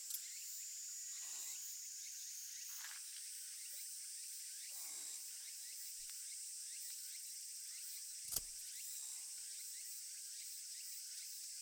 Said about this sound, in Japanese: セミ、うるさいくらいです。